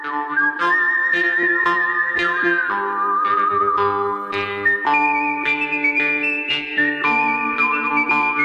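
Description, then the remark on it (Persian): A whistled melody carries long, sustained notes over a steady orchestral backing with plucked and percussive accents, loud throughout, from a famous western film score by an Italian composer. “آهنگسازی فیلم‌های وسترن خیلی معروفی رو انجام داده، مثل یه مش دلار، خوب بد زش، همون ملودی‌های خیلی معروف از سوت استفاده کرده”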